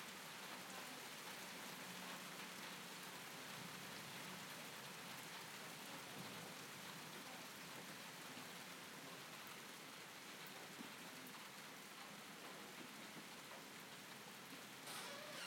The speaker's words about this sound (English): Lightning again. Rain's coming again.